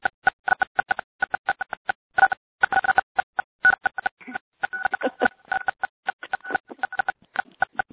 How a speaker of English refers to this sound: You get close to a phone and everybody hits the six button at once. No star or anything. Just hit the six.